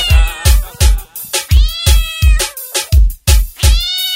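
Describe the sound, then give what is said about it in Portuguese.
Repeated cat-like meows glide up and down over a loud, steady thumping bass beat that hits about twice a second, like meow samples woven into a dance track. “E bota a gata, bota a gata pra miar.”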